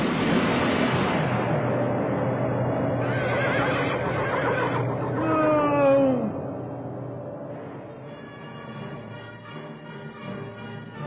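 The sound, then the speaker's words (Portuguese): During a storm, a mule tied to a bush is struck by lightning and lets out a shrill, wavering whinny that slides down in pitch, rising over a steady, noisy rumble and then fading, with the rumble carrying on underneath. “No auge da tempestade, um raio veloz e implacável atinge o arbusto onde ele havia prendido sua mula, que recebe imediatamente um choque violento, uma descarga tão poderosa quanto a ira da natureza.”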